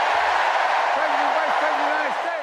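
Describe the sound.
A large crowd at a political rally cheers and roars loudly and continuously after Joe Biden asks if they are ready to elect Kamala Harris and Tim Walz, a dense wall of voices with a few individual shouts rising above the din.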